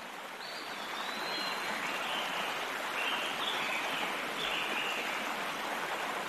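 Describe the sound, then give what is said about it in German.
A small river flows steadily under an arched grey stone bridge, its continuous rushing, bubbling wash even in loudness throughout, with no voices and only faint high chirps now and then. “Am Ende des Pfades ist eine kleine Brücke aus grauem Stein, geschwungen in einem Bogen, die über einen kleinen Fluss führt.”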